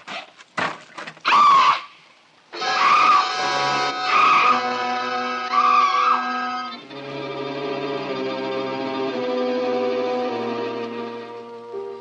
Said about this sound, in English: Screaming finally. I felt better for it.